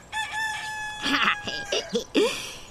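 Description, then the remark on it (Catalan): A rooster crows once, loud, a long strained cry that rises, holds and breaks into ragged, wavering notes before ending abruptly. No one speaks. “Caram! Tu també ets un gall, Mic?”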